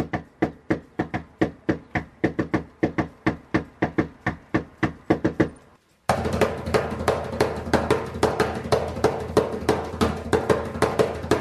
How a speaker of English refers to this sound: Yeah, you know, because all you hear is drumming. I like that at the end.